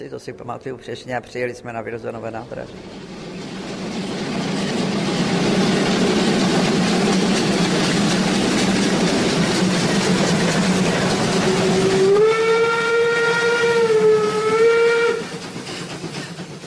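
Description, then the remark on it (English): A steam train chugs along with a steady, rushing rumble, then a loud, sustained steam whistle blows for a few seconds near the end, with brief talk at the very start. “We came back to Prague also by train on May the 21st at 1:45 at night.”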